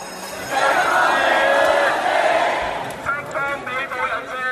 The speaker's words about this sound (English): Massive protests in Hong Kong today move from the streets through a police line and into the city's Legislative Council building. Protesters broke the glass doors and pried open the gates.